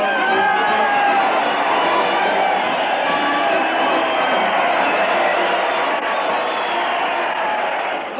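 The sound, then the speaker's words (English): A large crowd cheers Fred Allen as he leads his weekly parade to the Old Town Hall, leading the band with a fishing rod; a dense wall of voices and whoops holding steady and loud throughout, with no single words standing out. “Crowd cheer Fred Allen as he leads his weekly parade to the Old Town Hall.”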